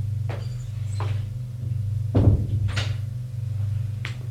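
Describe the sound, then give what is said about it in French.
A living room door is opened, with a few sharp clicks and rattles of the handle and one heavier thud midway, over a steady low hum. No one speaks. “Et ouvre la porte du salon.”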